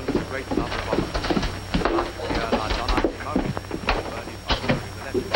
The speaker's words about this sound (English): Hesitantly, she goes downstairs to answer the door.